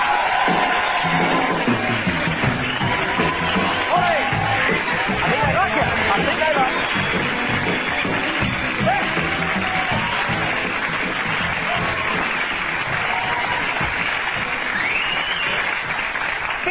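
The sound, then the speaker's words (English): A TV studio audience applauds steadily for the whole stretch as hypnotist Paul McKenna is introduced: a dense wash of clapping mixed with scattered cheers and crowd murmur, loud and sustained without a break. “Please applaud from both sides of your brains for the actual Paul McKenna!”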